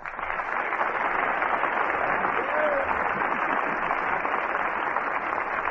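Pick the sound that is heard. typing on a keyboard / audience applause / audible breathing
audience applause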